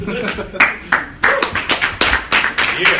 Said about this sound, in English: Remember, you clap for that.